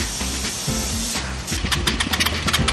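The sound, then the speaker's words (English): The Jet Doctors team's engine turns over with a steady low mechanical drone, then settles into quick, rhythmic pulsing bursts as it cranks repeatedly without catching, fairly loud. “And the jet doctors are still having engine trauma. It doesn't sound like it's hitting.”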